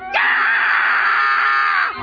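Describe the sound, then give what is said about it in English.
A single loud, high-pitched scream from a woman on board a ship, held for nearly two seconds, sustained and shrill with a rising onset, on its own with no talking. “I heard a scream like this.”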